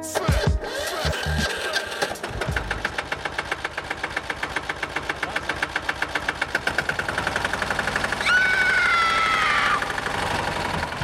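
A motor cultivator engine chugs steadily with a fast, even knocking rhythm, loud throughout; around the eighth second a higher whining tone rises over the running engine for a moment.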